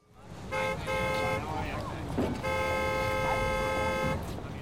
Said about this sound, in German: Mann, hier ist vielleicht was los. Mehrere Millionen Menschen tummeln sich auf den Straßen, Autos fahren herum. Das ist ein richtiges Gewusel und Gewimmel.